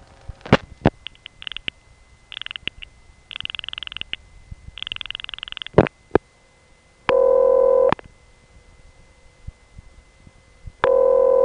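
Short telephone ringback tones over a phone line after dialing a number in the 780 exchange in New York City. There are two brief rings, each half the length of a normal ring and about a second long, with a few seconds' gap, after a stretch of clicks and buzzy line noises.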